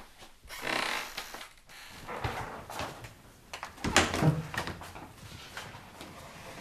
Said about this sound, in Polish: Proszę, jeden zamek, drugi zamek i zatrzask. Już dużo, dużo później wstawiony jest zamek. Teraz jeden, ten taki współczesny. Natomiast to są stare zamki, proszę zobaczyć. Jeden, dwa.